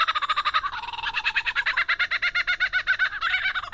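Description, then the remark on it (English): A lyrebird mimics a laughing kookaburra: a loud, continuous run of rapid, rhythmic cackling notes that rise and bubble without pause, with no talking. “Lyrebirds are best known for their uncanny vocal abilities, which can incorporate spot-on imitations of other bird species, like this laughing kookaburra.”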